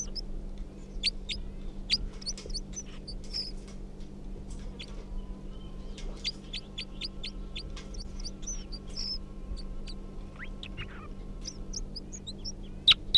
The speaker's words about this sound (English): That was 327, responding to the call of the wild bird. And 305 song, now pointed back up at the wild bird, who's giving a few calls.